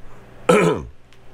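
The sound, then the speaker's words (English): A single short, gravelly throat clearing bursts out, lasting under half a second, then fades back into quiet room tone. “You don't have to clear your throat. I do.”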